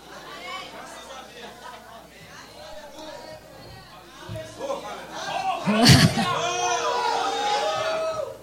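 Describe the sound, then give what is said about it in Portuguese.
A noisy, excited audience of many overlapping voices chattering and calling out, swelling louder in the second half, with a sharp smack or slam cutting through the din. “Que povo maluco e barulhento.”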